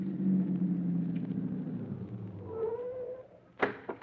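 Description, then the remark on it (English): An engine hums low and winds down as a vehicle slows, with a brief high squeal near the end before it stops, followed by a sharp clunk. “stop the car.”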